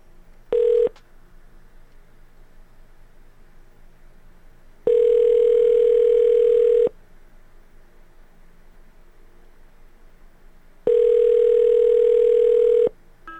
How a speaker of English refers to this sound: Let me get through this pulsating dial tone. I dial 9 first, right? Okay, that doesn't pulsate anymore.